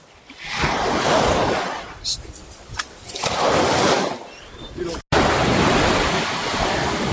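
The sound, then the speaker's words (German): Waves of a quite wild sea surge and wash onto the shore in broad swelling rushes, rising and falling in loudness, with a steady roar of surf continuing after a brief cut. “Ich könnte mir das jetzt hier jeden Tag so zum Aufwecken... Meeresrauschen.”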